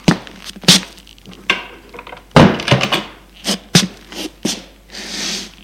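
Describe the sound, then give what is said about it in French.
A bedroom door is handled and shut: a string of sharp knocks and clicks from the latch and frame, one heavier thump in the middle, ending with a soft rushing swish. No one speaks. “Entre et ferme la porte.”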